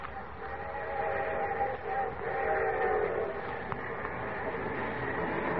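A train rolls steadily along the tracks, a continuous rumble with a faint whistling tone running through it, unbroken for several seconds with no voices.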